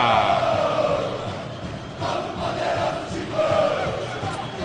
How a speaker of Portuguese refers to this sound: Termina o primeiro tempo no Mineirão. Corinthians vence, Cruzeiro 0, 1 pro Corinthians. E esse é o clima no Mineirão. Só dá fiel torcida, 3 mil contra o Mineirão todo. Sinta o clima.